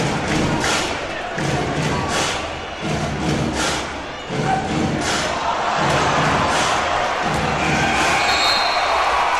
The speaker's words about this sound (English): They're the final grim moments of last night's game at the American Airlines Arena. You can hear the audio groans, the audible groans, as the buzzer sounded. The home team lost Game 1 last night in Miami to the San Antonio Spurs, 92-88.